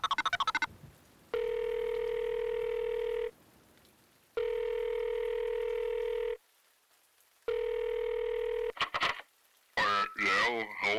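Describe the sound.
A brief burst of dialing gives way to three long, steady telephone ring tones with pauses between them, followed by a voice picking up on the line.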